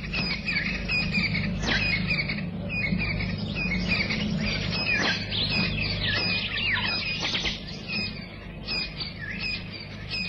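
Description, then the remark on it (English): A dense dawn chorus of many birds in the African bushveld, chirping and trilling at once, overlapping calls over a steady low background hum, with no voices. “The chorus of birds heralds the dawn in the African bushveld.”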